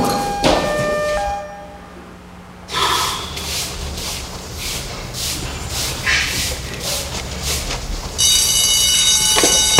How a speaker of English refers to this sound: No. The alarm. We're just training.